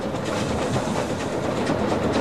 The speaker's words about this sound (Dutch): Hij kan 130 km per uur, maar in Nederland mag hij niet harder dan 35. 8 ton kolen en 31.000 liter water neemt de locomotief mee als hij als Veluwse stoomtrein aan de rit gaat tussen Apeldoorn en Dieren. Een prachtige rit.